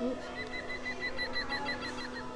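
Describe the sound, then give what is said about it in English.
A green woodpecker's laughing yaffle: a quick, even series of bright, ringing notes repeated at a steady pace, heard over a low steady hum with no talking. “Is that a little green woodpecker? Yes, yaffle.”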